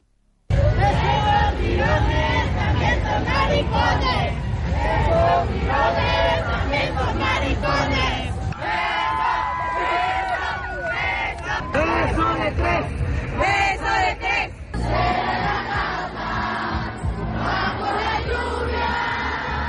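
A large crowd cheers and shouts without pause during a street march celebration in the rain, by the Monumento a los 43 and El Caballito near the Alameda Central, a loud, dense wash of overlapping voices and chants with a steady undercurrent of murmuring.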